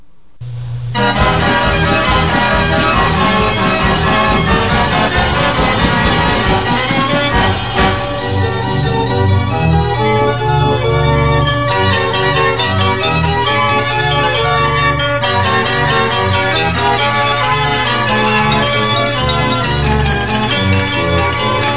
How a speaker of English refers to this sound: Now, suppose we take a ride. As we go around, we hear the music of the Wurlitzer. Only 10 carousel organs like this one are known to exist in the world. Some of the instruments we hear are unusual, like the Glockenspiel and the flageolet.